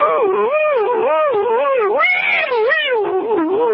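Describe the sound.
A man's voice imitates a warbling electronic signal, an audio frequency analog of an extreme low frequency magnetic field from an object reversing direction: a continuous wavering tone sweeping up and down in a steady wobbling rhythm for several seconds, loud, somewhat like a yowling cat.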